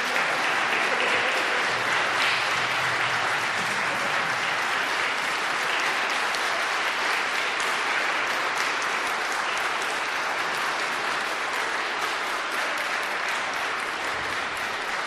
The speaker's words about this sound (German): Und wenn Sie auch der Überzeugung sind, dass Sie ganz wertvolle Geschöpfe Gottes sind, dann dürfen Sie jetzt mal einen Applaus für diese beiden loswerden.